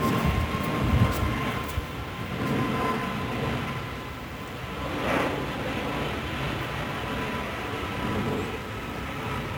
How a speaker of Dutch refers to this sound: En het is niet allemaal koek en ei, want het is niet allemaal stil en mooi in Limburg. Nee, helemaal niet, want we hebben ook weer eens een keer lekker laag overkomend invliegend vliegtuig gehoord.